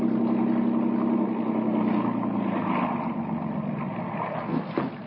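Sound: boat engine idling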